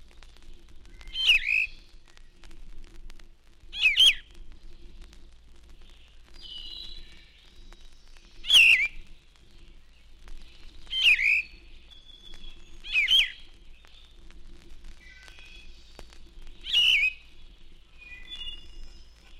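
A yellow-throated vireo sings short, slightly hoarse phrases, about seven of them, delivered slowly with pauses of a couple of seconds between each, clear over a quiet low hum.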